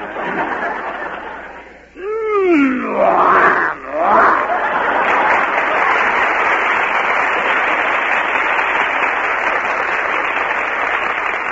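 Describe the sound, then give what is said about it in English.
As a forfeit, a person lets out a short, rising-and-falling growl in imitation of the MGM lion, quickly swallowed by a burst of laughter and steady, sustained applause from a crowd. “You must growl like the MGM lion.”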